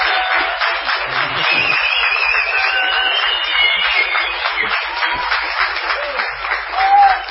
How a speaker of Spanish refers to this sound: Bueno, aplauso. Ya que quiere aplaudir, aplauso. Yo los animo. Tiene ganas de aplaudir.